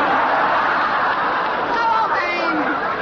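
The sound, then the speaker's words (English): A large crowd of 5,000 kilted Scotsmen yells and screams at once as they charge through tall thistles into battle, a loud, unbroken roar of many voices, with a few higher individual shouts rising out of the din toward the end. “5,000 kilted Scotsmen rushing through the tall thistles, screaming.”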